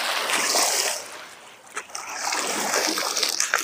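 Water splashes and laps continuously at a lakeshore boat ramp that normally lies 2 to 3 metres under water, a close, broad hiss of splatter that eases briefly midway before picking up again with small sharp slaps.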